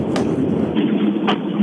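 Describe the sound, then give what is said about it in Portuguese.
A steady, broad roar of an airplane flying over the Rotunda do Relógio roundabout fills the whole clip, loud and unbroken, with a couple of brief sharp bursts of noise cutting through it. “Ouve-se o avião.”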